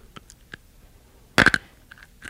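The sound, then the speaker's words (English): Hard candy crunched between teeth in the dark, a few faint clicks leading into a cluster of loud, sharp cracking bursts midway, then another crunch at the end, with no talking. “now we have to get to where we can see each other crunching”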